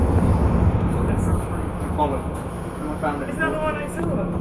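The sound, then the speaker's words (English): A Bakerloo line London Underground train to Elephant and Castle rumbles steadily and loudly, while an onboard announcement voice comes through faintly over the noise partway through. “This is a Bakerloo line train to Elephant and Castle.”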